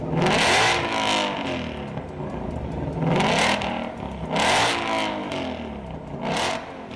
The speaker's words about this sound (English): Burbling, bubbling, like a pot beginning to boil. Listen, this is a Ford Mustang GT500, the cross-plane sibling to the GT350.